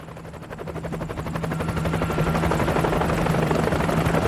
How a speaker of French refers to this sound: Et surtout, il tend l'oreille et il entend l'hélico qui s'approche.